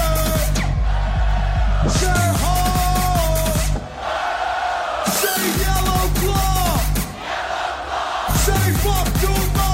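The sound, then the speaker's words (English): A loud crowd screams, cheers and jumps at a music drop over pounding electronic music with heavy bass, the cheering surging in waves as the beat drops back in, sustained throughout. “Everybody, I need everybody to jump on my side. Scream and jump.”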